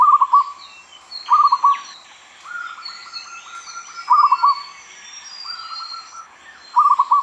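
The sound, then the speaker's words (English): Zebra dove cooing: soft, low staccato coos come in short clipped bursts alternating with longer rolling trills, repeated several times, while fainter higher bird chirps twitter in the background. “Zebra dove cooing competitions have become very popular in Thailand and other Southeast Asian countries, where the doves are judged by the melody, range, and loudness of their coos.”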